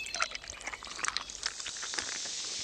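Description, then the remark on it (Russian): Water being poured into a water rocket, a steady trickling splash with small bubbly gurgles and drips, fairly quiet, lasting a few seconds with no talking. “Тебе нужно только залить немного воды, и она полетит.”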